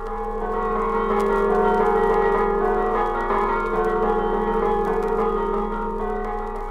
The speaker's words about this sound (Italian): In ogni paese del Friuli un campanile, e su ogni campanile un concerto diverso di sacri bronzi.